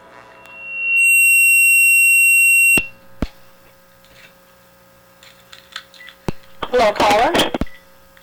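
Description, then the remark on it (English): A telephone rings once: a loud, steady, high-pitched electronic tone with bright overtones, lasting about two seconds, followed by a few sharp clicks and a short burst of handling noise. “And maybe I'll have to read it after I answer the phone, huh?”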